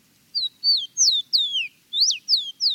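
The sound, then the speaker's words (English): A rufous-collared sparrow, known locally as Tico Tico, a backyard bird of Latin America, sings a run of clear, sweet whistled notes, seven quick slurred phrases in steady succession, distinct with no voices. “The rufous-collared sparrow is a handsome, familiar backyard bird found through much of Latin America.”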